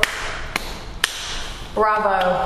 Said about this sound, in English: Bravo. We get claps. That guy gets claps.